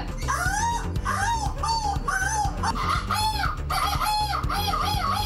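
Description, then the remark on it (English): Several people squawk and screech over one another in loud imitations of seagull calls, a continuous jumble of rising and falling cries with no pauses. “Who has the best seagull impression?”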